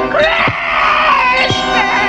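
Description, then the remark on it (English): Loud, sustained high-pitched screaming fills the whole moment, with several shrill voices overlapping and wavering in pitch, continuous with no pauses. “Scream. Scream. Stop them!”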